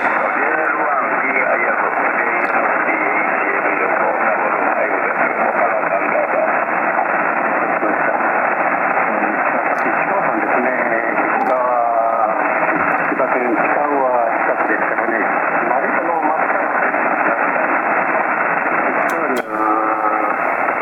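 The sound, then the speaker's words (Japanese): Steady, dense radio receiver static hisses loudly throughout with the receiver's noise canceller switched off, a faint voice buried in the noise and occasional warbling tones and brief clicks breaking through. “ノイズキャンセラーなし。”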